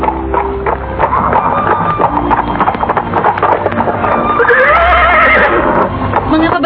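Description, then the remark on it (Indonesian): A horse neighs loudly, its whinny rising and wavering near the end, with hooves clip-clopping and a low rumbling background throughout, as a man pulls its reins while travelling through a village with a tired rider on its back. “Dia duduk sempoyongan di atas kuda. Laki-laki asing itu segera menarik tali kekang.”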